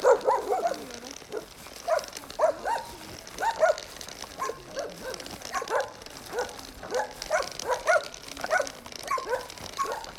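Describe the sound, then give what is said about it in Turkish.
A dog barks repeatedly with a hoarse, raspy voice, its voice worn out from barking, the rough barks coming in irregular bursts over a steady outdoor background. “Ya bu köpeğin bağırmaktan sesi kısılmış ya.”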